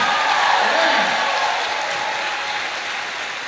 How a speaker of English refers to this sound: And my friend in, let's give a bigger round of applause.